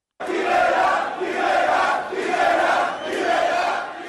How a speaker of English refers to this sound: Video of those protests show crowds chanting for shop owners to close their businesses.